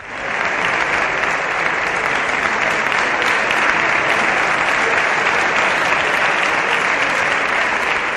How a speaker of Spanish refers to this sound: ¿Que Pedro Sánchez acude al Congreso para presumir de las ayudas europeas? Pues allá que se presenta toda la bancada socialista, apretados como piojos en costura, para que no les pongan falta en el enésimo aplauso al líder.